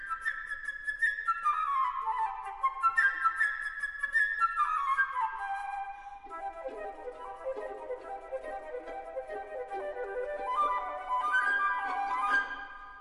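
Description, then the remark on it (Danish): A solo flute, playing the part of a little bird in an orchestral tale, plays a bright, chirping melody with quick trills and rapid runs that dart up and down, clear, with no voices. “For eksempel, den lille fugl bliver spillet af fløjten. Sådan her.”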